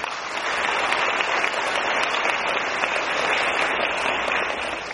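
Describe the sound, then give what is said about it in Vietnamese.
A large crowd applauds steadily for about five seconds for the Thiên Quang group of blind practitioners, a dense, even wash of many hands clapping at constant loudness with no voices standing out. “Bây giờ các vị nhìn đạo tràng người khiếm thị Thiên Quang, xin tặng cho họ một tràng pháo tay.”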